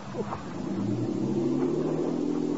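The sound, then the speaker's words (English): A motorboat engine revs up with a rising, throaty drone that holds steady and loud as Saria pulls away with the boat. No voices are heard. “There goes that luscious cookie Saria with the boat.”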